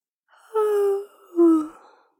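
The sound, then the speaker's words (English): A fairly loud yawn, drawn out in two breathy, voiced swells that rise and then fade, with no talking around it. “I'm getting sleepy. Why are you yawning too?”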